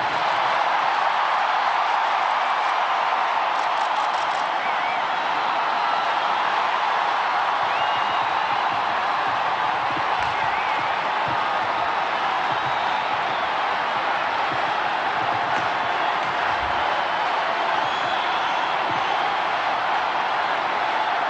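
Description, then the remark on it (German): A large crowd cheers as Pope Francis appears and blesses them, a dense, continuous roar of many voices that stays loud and steady throughout, with no single voice standing out. “Und natürlich auch der Jubel der Menschenmenge, der immer lauter wird.”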